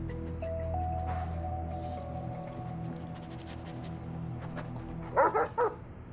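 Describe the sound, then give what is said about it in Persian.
A dog, Rex, barks in a quick burst of three or four sharp woofs near the end, fairly loud, following a stretch of low hum and steady background tones. “از سگت متنفرم، ولی اون از تو خوشش میاد.”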